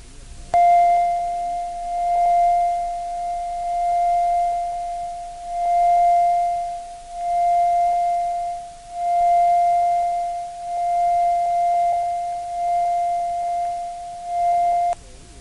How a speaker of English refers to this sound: The following tone is a reference tone of 700 cycles per second recorded at operating level. Set playback level control so that the tone reads zero on the VU meter.